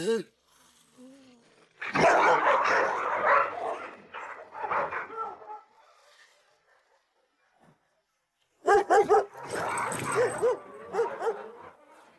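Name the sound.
dog barking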